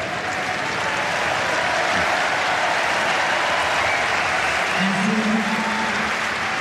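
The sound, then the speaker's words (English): Steady, dense applause from a large tennis crowd fills the whole stretch, a broad wash of clapping with a faint murmur of voices and a brief low tone near the end, as Potapova's match reaches two match points after she nets a backhand. “Crowd responds to the situation.”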